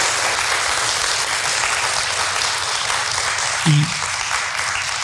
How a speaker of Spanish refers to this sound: Le damos un aplauso con todo cariño